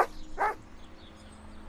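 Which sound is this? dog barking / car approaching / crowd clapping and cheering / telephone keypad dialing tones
dog barking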